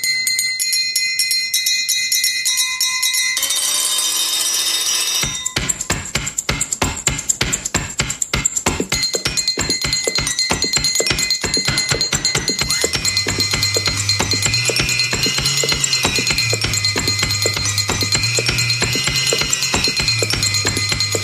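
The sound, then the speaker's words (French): Music made with kitchen things (glasses, a blender, cupboard doors): ringing glass tones, a short whirring blender burst, then a steady clattering beat of knocks and taps, joined later by a low bass melody. “D'abord, ils ont fait de la musique avec les outils de la cuisine. Les verres, le mixeur, les portes de placard, tout ça.”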